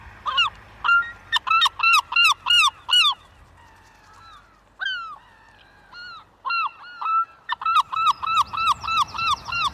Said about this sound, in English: One of my favourite birds, the herring gull there.